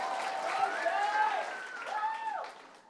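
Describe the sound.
An audience applauds steadily for a few seconds, a dense wash of clapping with voices calling and cheering over it, fading slightly at the end.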